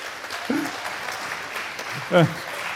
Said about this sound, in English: Please give a very warm round of applause